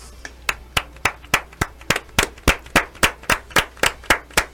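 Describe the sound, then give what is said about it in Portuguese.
Hands clapping in a steady, even rhythm, roughly fifteen sharp claps over a few seconds, each crisp and fairly loud, with no talking over them. “Olha, você não é tapetins, mas merece palmas.”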